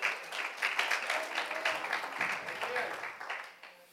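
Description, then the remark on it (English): An audience claps their hands to the Lord in a steady, dense wash of applause lasting several seconds, with faint voices murmuring underneath. “You can clap your hands to the Lord.”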